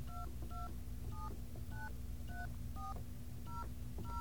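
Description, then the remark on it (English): A string of about eight short two-tone keypad beeps, evenly paced, as a collect phone call is dialed on an internal phone system, over a steady low electrical hum and background noise, with no talking. “We're going to make a collect phone call. Whoops. Never dial 0 before you dial 9 when you're on an internal system.”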